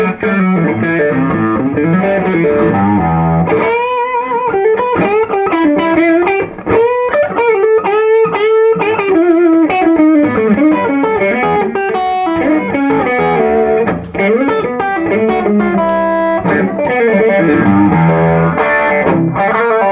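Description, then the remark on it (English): An electric guitar, played with both pickups together through a Screamer overdrive pedal into a soft, uncranked amp, plays a steady run of sustained, overdriven notes and bends, loud, with a thick distorted tone and no voices throughout. “all that distortion is coming from the pedal.”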